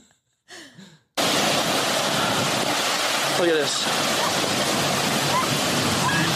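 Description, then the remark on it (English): A brief spoken remark, then a sudden loud, steady roar of crashing, churning waves in a kid's wave pool fills the rest, with a faint voice briefly audible beneath the rush of water. “These waves will destroy you.”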